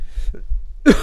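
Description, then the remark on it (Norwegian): After a near-silent stretch, one short, rough burst of coughing and throat clearing erupts, harsh and breathy, with no talking. “Helvete hvor irriterende det er å ha hoste, altså.”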